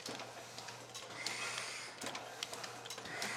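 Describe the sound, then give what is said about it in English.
A letterpress printing press runs steadily, its mechanism producing a continuous whirring hiss with repeated soft clacks and thumps at an irregular rhythm. No voices are heard. “and I'm letterpress printing.”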